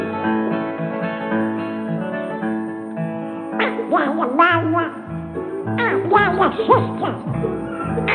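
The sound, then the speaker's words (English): Nasal, quacking duck noises made by a voice come in two clusters of rapid, squawky bursts over a steady sustained tone that runs throughout, moderately loud. “Here we go, like a duck.”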